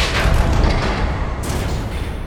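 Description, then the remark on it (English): A loud, dense burst of a storage bunker's metal hatches all slamming shut at once, heavy booming clangs blurring into a sustained rumbling roar that holds steady for a couple of seconds, with no voices. “A deafening chorus of clangs reverberated through the storage bunker as all of its hatches slammed shut simultaneously.”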